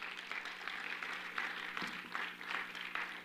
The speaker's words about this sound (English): Come on, clap your hands this morning.